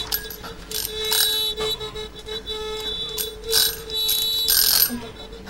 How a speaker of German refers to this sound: Ah, es hat geklingelt. Aus. Ich bin wieder vorbei, die Zeit ist schon wieder vorbei.